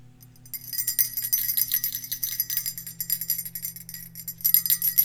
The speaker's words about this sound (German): Du bist schon ein wenig aufgeregt, denn gleich werden die Geschenke unter den Christbaum gelegt. Du wartest vor der Türe und hörst das Glöckchen läuten.